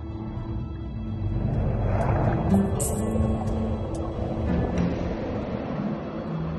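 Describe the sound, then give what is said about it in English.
A muffled, steady engine drone with churning water from speedboats overhead, heard from underwater around a closing tuna net, with occasional faint clicks and splashes over a constant low rumble. “The dye and the speedboats overhead discourage the tuna from making a dash through the closing gap in the wall of net.”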